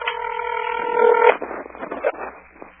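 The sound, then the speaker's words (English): A cell phone places a call to a friend: a steady electronic tone sounds for just over a second, then cuts off into soft crackly line noise and faint clicks. “Yeah, I'm calling right now.”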